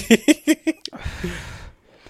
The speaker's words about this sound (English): I'm gonna just sip my drink.